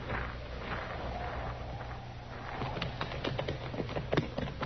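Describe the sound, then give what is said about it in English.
Horse hooves clip-clop over a low rumbling background as riders leave on horseback, the quick, uneven hoofbeats picking up partway through as several horses move off. Nobody speaks. “We will ride.”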